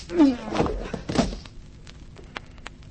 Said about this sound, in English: Either he had a glass jaw or I'd hit him too hard. He was out.